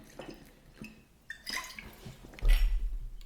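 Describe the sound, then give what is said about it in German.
Someone takes a quick sip of water: a few soft wet slurps and small clicks, then a louder, brief rustling clatter near the end, with no talking. “Ich nehme nochmal schnell einen Schluck Wasser.”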